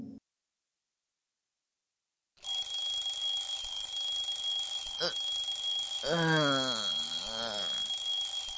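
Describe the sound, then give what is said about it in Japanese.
After a brief silence, an alarm clock starts ringing loudly and continuously, a steady high electronic tone that never lets up, with a voice speaking briefly over it near the end. “うわっ、目覚ましが勝手に止まったと思ったら。”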